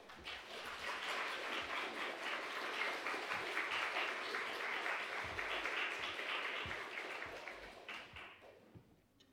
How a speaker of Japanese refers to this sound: それでは拍手を持ってお迎えしましょう。よろしくお願いします。